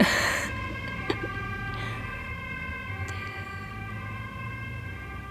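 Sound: emergency siren passing outside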